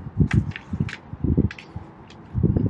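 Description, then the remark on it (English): Paper shuffles and rustles in a series of irregular, crinkly bursts, some soft and some sharper, with a low rumble beneath and no voices, in a baseball broadcast booth with wind blowing directly into it. “So forgive if you hear the shuffling of paper.”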